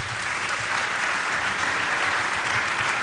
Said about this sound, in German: Einen Applaus für diese Aufgabe.